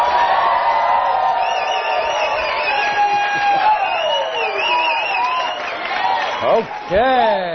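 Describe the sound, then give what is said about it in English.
A crowd cheers loudly and steadily, a dense roar of many voices with high whoops and shouts rising over it, swelling again near the end, cheering for the people who made it to CD number 7 of the audio program How to Become a Network Marketing Professional. “All right, ladies and gentlemen, let's give one more cheer for the people who made it to CD number 7.”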